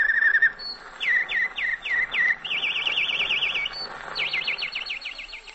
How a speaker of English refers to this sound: One sound that always reminded me of home was the canary bird. How's for a canary to dig me a little jive? Okay there, Dickie Bird, dig that boy.